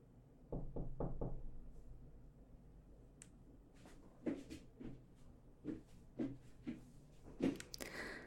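Knocking on a dormitory door: a quick burst of three raps, a pause, then several more scattered, uneven knocks, moderately loud with no one speaking.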